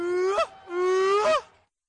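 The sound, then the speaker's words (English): A human voice imitates a traditional seal call, used by hunters to mimic a seal to get close enough to harpoon it and to signal hunter success: two loud, drawn-out wailing cries, the first short, the second longer, each holding a steady tone that bends sharply upward at its end. “The seal call was also used to signal hunter success, a joyful sound”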